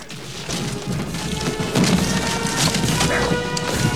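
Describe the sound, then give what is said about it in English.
A body thrown backwards onto wooden steps inside a church belfry smashes through them with a loud splintering crash, followed by a dense run of cracking wood and heavy thuds lasting several seconds. No one speaks. “the goon thrusts him backwards onto some steps, which he crashes through.”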